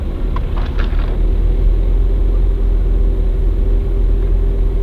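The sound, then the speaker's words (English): A car's engine rumbles low and steady on a road, a lane that goes uphill, with a faint hum throughout and a few light clicks near the start; no one speaks. “Yeah, here's the road with the car on it.”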